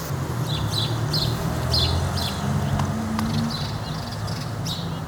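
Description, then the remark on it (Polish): House sparrows chirp in quick, repeated bursts over a steady low rumble of nearby car traffic, the chirping continuing throughout at moderate loudness. “Oczywiście typowe ćwierkanie. Tu będzie bliżej samochodów, no ale tu są też te wróble.”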